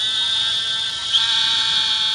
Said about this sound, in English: The narrow-mouthed toad. And right now they're calling in the water with just the tip of the snout sticking out of the water.